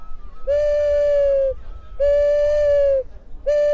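Three long, steady hooting notes from an owl-shaped clay whistle, each lasting about a second with short gaps between, loud, sounding very like an owl's call.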